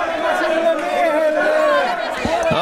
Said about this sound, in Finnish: Täällä kyllä väkijoukko alkaa käydä nyt todella kuumana. Ihmiset tuuppii toisia. Huuto on suorastaan korvia särkevää.